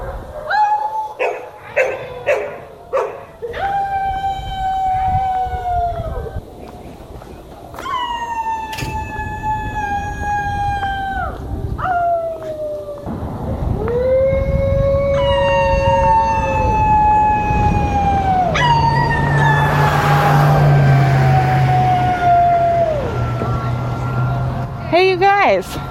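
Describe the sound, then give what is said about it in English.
Several neighbors howl together outdoors at 7:59 in the evening in the Berkeley neighborhood of Northwest Denver, voices imitating wolves in long, overlapping, wavering howls that rise and fall, loud, with a few shorter yips early on and a busy open-air background. “Do you want to say a few words about why you're out here howling tonight?”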